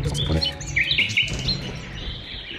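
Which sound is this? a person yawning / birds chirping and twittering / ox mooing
birds chirping and twittering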